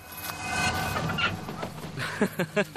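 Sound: bird call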